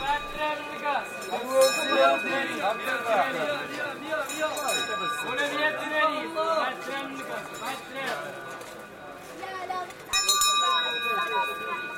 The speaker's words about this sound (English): That's the girab, who carries a goatskin full of water and dispenses it in a brass cup to anyone who requires a drink. Along with the bell, his signature sound